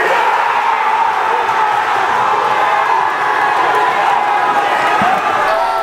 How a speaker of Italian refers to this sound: Urla belluine, questo probabilmente era ancora il rigore di Donnarumma, anzi direi proprio di sì, il rigore parato da Donnarumma.